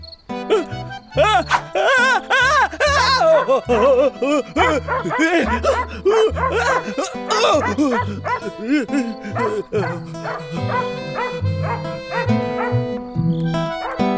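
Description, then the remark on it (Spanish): A dog barks and yelps at the moon at night, over and over, loud, in a steady run of sharp calls that rise and fall over a dense tonal background. “Pero esa noche, el perro se levantó a ladrarle a la luna como hacen casi todos los perros de vez en cuando.”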